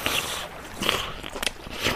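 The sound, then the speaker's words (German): Wet slurping sounds from someone sucking a raw oyster off its shell, a few short noisy bursts over about two seconds with soft smacking in between. “das Schlürfen einer Auster.”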